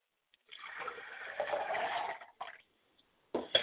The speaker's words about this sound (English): I pour libations to the north, and I say, Ashe.